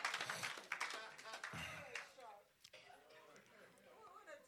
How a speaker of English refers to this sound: Clap for the Lord Jesus. Hallelujah.